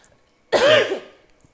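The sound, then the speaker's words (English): A single loud, harsh cough with a raspy, throaty edge, after drinking water went down the wrong way, bursts out and trails off in under a second, with no talking around it. “Oh, my God. It went down the wrong hole.”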